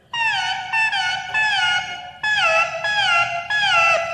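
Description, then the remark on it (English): An electronic instrument does an impression of a little bird with six quick, warbling tweets in pairs, each note sliding downward in pitch. The tone is loud and bright, with no voices. “Little birdie.”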